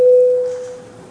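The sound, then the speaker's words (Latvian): A steady electronic bell tone sounds alone, a single sustained pitch that is loud at first and gradually fades, calling parliament deputies to vote on a proposal. “Lūdzu zvanu.”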